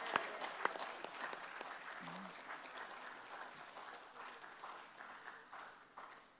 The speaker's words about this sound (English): Let's have another huge round of applause.